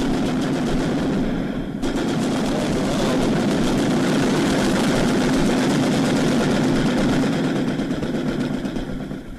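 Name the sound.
gunfire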